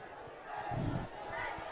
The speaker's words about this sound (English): And they have fought back here to the delight of this homecoming crowd.